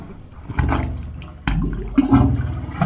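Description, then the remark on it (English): Hollow, gurgling bay water sloshes through the concrete pipes of the Wave Organ, which amplifies the sounds of the bay, in low, resonant surges, with deep droning tones swelling in two or three loud pulses, like waves pushing through a tube. “They're how the Wave Organ amplifies the sounds of the bay.”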